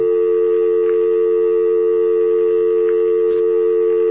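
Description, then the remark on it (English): A steady, unbroken telephone dial tone hums continuously at an even level, clear, with only a couple of faint clicks in the background and no talking. “I've got a dial tone here, okay? You hear my dial tone?”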